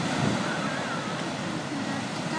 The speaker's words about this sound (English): No, I'm recording the sound of the sea now.